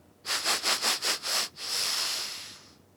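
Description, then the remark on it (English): A voice imitates sniffing, acting out a fox taking a whiff: six quick, breathy sniffs in an even rhythm, then one longer, steady hiss of breath. The sounds are moderately loud, with no talking. “"I want to get another whiff there."”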